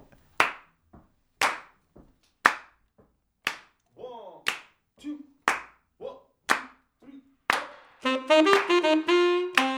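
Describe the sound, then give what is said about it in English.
An audience claps along together in a steady rhythm, about one sharp clap per second, with a faint voice in between; near the end, loud singing with music starts over the claps. “You got to help clap along.”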